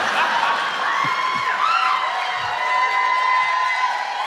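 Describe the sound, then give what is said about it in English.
A crowd cheers loudly and steadily, with whoops and shouts rising above a dense wash of many voices for several seconds. “It looks like the crowd wants you to, you know, we'll have to talk to ….”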